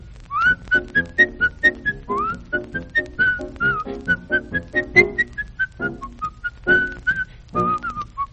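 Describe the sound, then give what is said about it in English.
A lively tune is whistled alone in short, bouncy notes with a steady marching rhythm, clear, with no talking over it. “Isn't that a silly little tune? But we love it because they sang it and whistled it and marched to it.”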